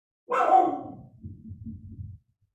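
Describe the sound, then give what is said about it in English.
A dog lets out one loud bark at the door, followed by a second or so of low, muffled rumbling that fades out. No one speaks. “Let me tell my daughter, I think pizza is here. Hold on. My dog is not going to be happy.”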